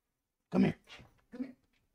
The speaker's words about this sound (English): Okay, he'll stop barking temporarily if I hold him, and then we'll take you outside.